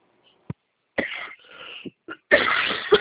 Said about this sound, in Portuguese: Ai, que tosse chata, meu.